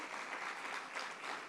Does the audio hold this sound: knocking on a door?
no